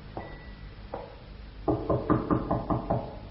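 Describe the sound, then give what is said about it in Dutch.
Knocking on a door: two separate knocks, then a quick run of about seven firmer raps. Hollow and wooden, with no talking. “Hier is een deur. Nou, klop er.”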